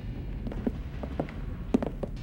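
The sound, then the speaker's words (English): Heavy footsteps of several men thud irregularly as a man leads them up wooden stairs in a hotel, a scatter of overlapping knocks and creaks over a low background rumble, with no talking. “He leads the men upstairs”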